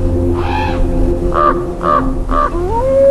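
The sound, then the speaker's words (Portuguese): Crows caw four times, one harsh call followed by three evenly spaced ones, loud over a steady low background rumble, with a rising tone at the end. The crows are the first to arrive at a frozen animal carcass in deep snow. “Os corvos são os primeiros a chegar.”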